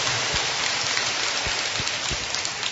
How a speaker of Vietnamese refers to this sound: Chúng tôi xin được chúc mừng tất cả các thầy, các cô, những nhà giáo, một tràng pháo tay nồng nhiệt thưa anh chị em và thưa các bạn.